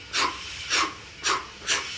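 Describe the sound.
A voice imitates the exhaust of a steam locomotive starting off, four breathy, hissing steam puffs in a slow, even rhythm, moderately loud, with brief quiet gaps between them.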